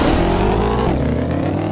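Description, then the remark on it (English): A race car engine revs steadily and loudly, its pitch shifting slightly as it drones on, with a synthetic, game-like quality and no voices over it. “Oh my god, this car's turning is horrible.”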